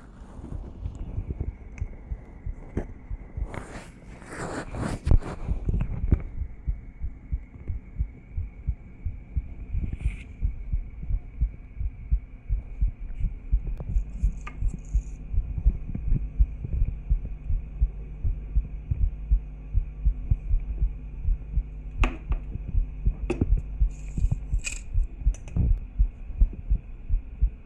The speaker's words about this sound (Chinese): 我的心跳可能会比较快，但是很正常的，我没病。